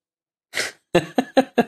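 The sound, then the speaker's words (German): A quick breathy inhale, then four short, voiced coughs in an even rapid rhythm, fairly loud, with no talking around them. “Der Heilige hustet und wechselt höflich das Thema.”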